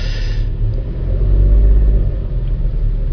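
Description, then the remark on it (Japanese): A car driving along a road toward a spot where swans are seen every year, with a steady, heavy low rumble of engine and tyre noise that holds at an even loudness throughout, with no voices. “白鳥が近くの田んぼに来ていると予想して今いつも毎年白鳥を目撃する地点に向けて、移動しております。”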